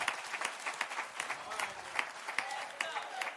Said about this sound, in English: If you believe that, give God a hand clap of praise right there.